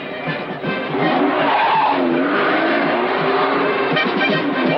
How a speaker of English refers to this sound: Angelo pulls onto the sidewalk in front of the bakery.